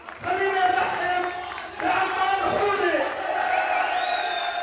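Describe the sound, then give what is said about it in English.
A large crowd of supporters of Saad Hariri in Lebanon shouts and yells in a dense, continuous roar of raised voices, venting frustration at being relegated to minority opposition status. It briefly dips before swelling again, with high, strained cries rising above the mass. “Last night, they vented their frustration at being relegated to minority opposition status.”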